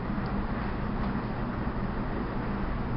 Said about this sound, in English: Hearing the air conditioner go on again.